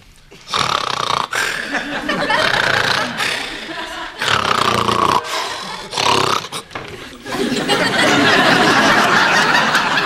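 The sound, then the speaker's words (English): A tape recording of a person snoring loudly and raggedly, each long rasping, snorting breath following the last with only brief pauses, the final snore stretching out longest. “this is a tape of you snoring.”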